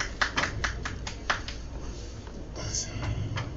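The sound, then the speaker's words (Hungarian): Sparse audience applause: a dozen or so sharp, irregular claps from a few people that thin out after a second and a half, leaving a low background murmur. “Sajnos annyira süt itt ez a lámpa, hogy nem látni, de köszönjük a tapsot.”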